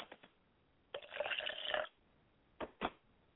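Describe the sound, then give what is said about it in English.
Liquid is poured out as a libation to the north in a brief splashing stream lasting about a second, framed by a few soft knocks and taps before and after, with no talking. “I pour libation to the north, and I say, oh, yea, carry the wind to the north.”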